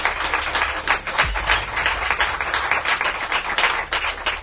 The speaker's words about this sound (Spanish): Los recibimos con un aplauso, ¿verdad?, con nuestros oyentes Carlos Canales y Jesús Callejo.